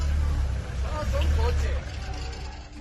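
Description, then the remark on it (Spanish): A nearly 50-year-old car's engine rumbles low and steady as it drives out of a flooded garage, started after its battery was changed, with excited voices shouting over the droning motor throughout. “Acabas de escuchar cómo un coche de casi 50 años de antigüedad sale de un garaje inundado.”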